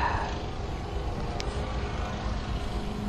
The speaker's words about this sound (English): wow, I hear a lawnmower somewhere in front of me, and, wow.